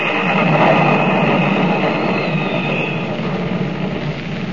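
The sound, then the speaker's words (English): A loud, sustained roaring rumble of a submarine exploding at night after steel cylinders strike its conning tower, dense and steady like heavy thunder, easing slightly toward the end with no voices over it. “Like a thing alive, the submarine leaps out of the water, buckles and splits in two as the deafening thunder of its explosion shatters the night.”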